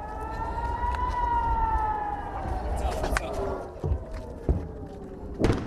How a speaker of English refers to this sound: Rocket fire from Gaza has continued deep into Israel. And the sirens are near non-stop in towns close by.